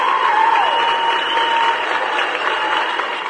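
Steady, dense applause from a crowd, a continuous crackle of many hands clapping at an even level throughout, with a faint high tone sliding briefly at the start.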